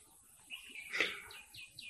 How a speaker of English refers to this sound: I enjoyed the spring, the birds, and the air, and the sun. I listened to the melodious chirping of numerous birds.